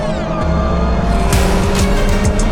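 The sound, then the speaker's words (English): Loud, sustained roar of race car engines during a race, pitch shifting as cars sweep past over the curbs and down Holman Boulevard, with a few sharp bursts and rising whines as they accelerate through. “White, over the curbs, couple cars go sailing straight through as they make their way down Holman Boulevard.”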